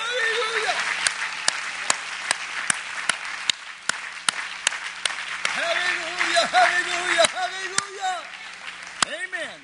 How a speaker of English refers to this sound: Hey, man, let's clap our hands for the Word of the Lord, shall we?